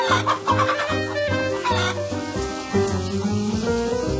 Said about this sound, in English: On Saturday morning, the rain came down. It made the chickens squawk.